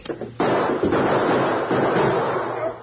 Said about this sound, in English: Don't shoot again. We give up.